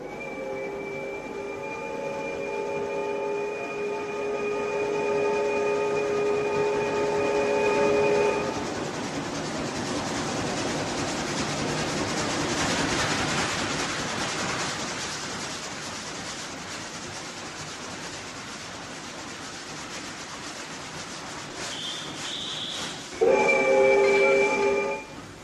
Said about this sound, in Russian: Пригородный поезд подошел к маленькому индустриальному городку на севере Англии мрачным дождливым вечером. Станция Скруп. Поезд дальше не пойдет.